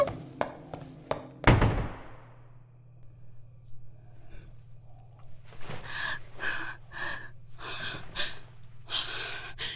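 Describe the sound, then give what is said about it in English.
A single heavy door thunk lands near the start, loud, followed by a low steady hum and then a run of sharp, panicky breaths and gasps. “Fuck, it's the door.”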